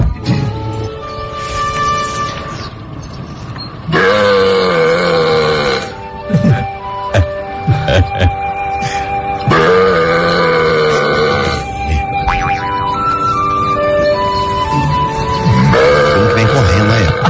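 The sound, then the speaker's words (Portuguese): A man calling cows lets out several long, loud, drawn-out burps after two sips of Pepsi from a small bottle, in separate bursts, low and droning with a wavering pitch, sounding almost like a cow's moo, with quieter stretches between them. “é o encantador de vacas, pra você que não está vendo, você vai ouvir como ele com uma garrafinha, dois golinhos na Pepsi, o que que ele não faz?”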